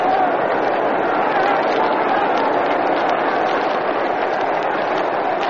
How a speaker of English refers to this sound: A long drive down the right field line. A typical Yankee smash. And it was a foul ball. Can you hear that yelling from the crowd?